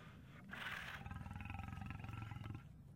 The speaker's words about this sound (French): Un lion. C'est un lion courageux.